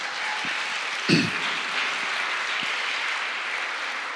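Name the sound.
audience applauding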